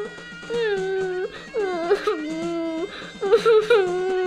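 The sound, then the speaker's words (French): A young girl, a princess, sobs in a series of wavering, high-pitched cries carried on the wind, rising and falling, with short catching breaths between them and no other sounds around. “Épuisé, ne sachant que faire, il allait s'asseoir assez désespéré lorsque le vent souffla à son oreille et lui fit entendre les sanglots d'une jeune fille.”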